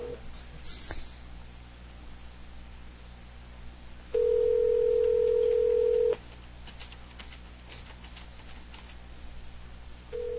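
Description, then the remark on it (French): A phone line rings back with a steady two-second tone, followed by a pause of quiet line hiss before the next ring starts. Clear and fairly loud, with no talking. “Est-ce qu'il va répondre? Il est là. Il court au téléphone.”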